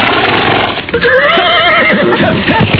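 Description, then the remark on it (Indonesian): A horse neighs loudly, a long wavering whinny rising and falling over a steady rumble of background noise, with no one speaking. “Cepat pegang pinggangku. Kalau tidak mau jatuh dari kuda.”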